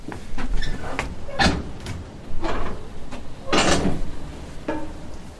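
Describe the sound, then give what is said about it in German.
Several doors opening with scattered clunks and scraping knocks spread over a few seconds, with a busy background and no clear talking. “Ah, die Türen gehen auf.”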